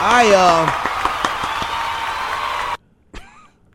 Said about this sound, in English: Seriously, round of applause.